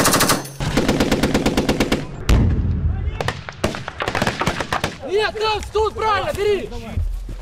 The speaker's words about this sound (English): Live gunfire rings out across the plains of southern England.